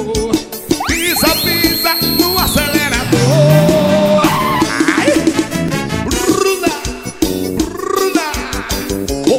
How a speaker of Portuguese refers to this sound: Meu Fiat Uno. Tenha calma, eu já vou. Enquanto eu me arrumo, vai esquentando o motor.